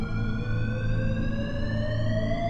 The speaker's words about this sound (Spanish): Íbamos a empezar a buscar a nuestros alrededores cuando sonó una de las alarmas.